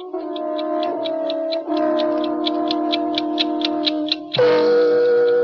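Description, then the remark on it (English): An 8-day clock in an apartment living room ticks rapidly and steadily, about four ticks a second, over a sustained low droning hum that shifts pitch near the end. No one speaks. “I had been away for 3 weeks, and my 8-day clock was running.”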